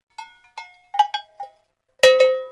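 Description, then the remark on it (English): Metal livestock bells, made for animals such as bullocks, draft horses, sheep, goats or cows, clank about seven times in an uneven rhythm, each bright, ringing strike fading quickly. The last two are louder, with a sustained resonant ring. No voices are heard. “The bells were designed for different animals. Some of them would have been for bullocks, some of them maybe for draft horses, some of them might be for sheep or goats or cows or whatever.”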